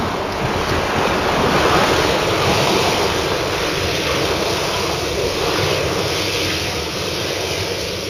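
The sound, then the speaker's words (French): Waves wash continuously against the shore in a dense, steady roar, with wind rushing across the microphone and no distinct individual splashes standing out. “clapotait gentiment contre la plage.”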